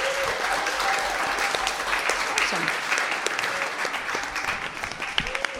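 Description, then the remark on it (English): Steady, dense applause from an audience for the performing artists at an evening show, a continuous wash of many hands clapping at even loudness throughout, with faint murmuring voices underneath. “Let's give our artists another round of applause.”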